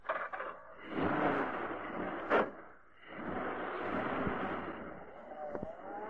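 After two men climb into a car and use its ignition key, the engine cranks and catches, then revs up and pulls away with a steady, rushing drone that holds fairly loud to the end.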